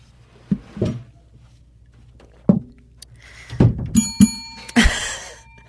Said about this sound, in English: Maybe I should close this door. Okay, I'll close it.